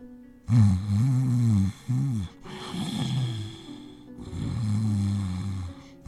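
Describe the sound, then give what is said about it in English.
A voice imitates snoring: three loud, drawn-out rasping snores, each a second or more long, separated by short pauses. The snores are prominent, with no talking. “After a short time of snoring, Taru sat up and replaced her helmet back onto her head and stood up.”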